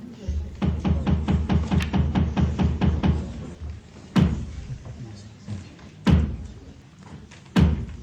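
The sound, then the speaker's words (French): A quick run of about a dozen wooden knocks on a floor, then three loud, slow, evenly spaced thuds announcing a theatre performance, with a low murmur of voices underneath. “Toc toc toc, place au théâtre.”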